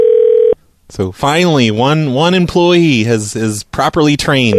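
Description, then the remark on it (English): A phone line goes dead as a Burn Dairy employee hangs up, into a short, loud, steady dial tone lasting about half a second, followed by a brief silence before a man starts talking. “Hangs right up on me.”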